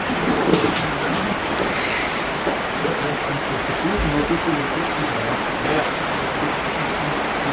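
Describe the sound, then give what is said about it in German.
Heavy rain pours down in a dense, steady hiss that fills the whole clip, loud and growing louder, with a faint murmur of a voice buried beneath the downpour. “Okay, der Regen wird lauter, ich werde auch ein bisschen lauter gedreht.”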